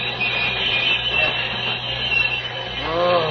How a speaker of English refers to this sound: I must bring this train to a stop.